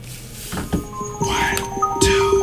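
A hip-hop song intro plays loudly, with sharp punchy hits and sustained synth tones over a dense, busy backing, building quickly without any voices.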